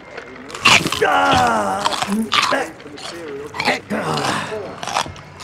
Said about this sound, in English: Hey, …, you think you could crunch any louder?